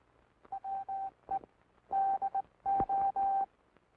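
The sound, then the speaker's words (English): A telegraph key sends a steady, clear tone in International Morse code, beeping out short and long pulses in four distinct groups spelling the words "We do", loud, with a faint background hiss and no talking. “Listen to the sounds of the key. These sounds are transmitted in International Morse code.”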